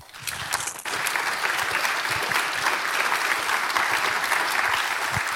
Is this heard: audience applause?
yes